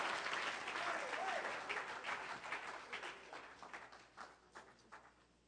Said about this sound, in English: Go ahead and give God a hand clap of praise as you're seated in this place.